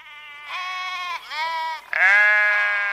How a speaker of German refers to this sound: Nö, blökte Wolle und kaute weiter auf einem Grashalm herum. Nö, meine Wolle gebe ich nicht her.